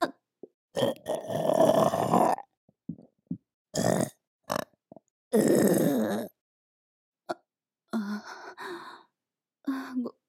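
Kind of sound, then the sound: human body sound, burp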